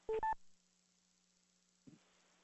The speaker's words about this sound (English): I probably just beeped in. I'm sorry.